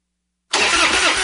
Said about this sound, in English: Nothing is more frustrating than a dead battery. When your truck won't start or your boat or ATV leaves you stranded far from home, that's not good.